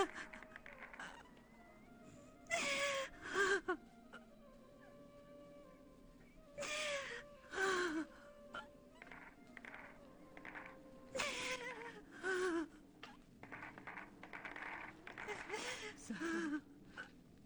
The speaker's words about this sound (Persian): مگه فرار نشد گریه نکنی؟ تو خودت همیشه ما رو من میکنی، حالا خودت داری همون کارو میکنی؟